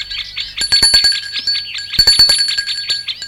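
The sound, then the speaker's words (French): A doorbell rings in two bursts of rapid, high-pitched metallic trilling, with a bright tone lingering between and after the strikes. No one speaks. “Elle sonne tout de même.”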